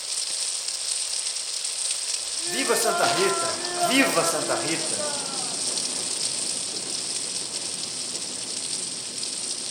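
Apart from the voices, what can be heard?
rain falling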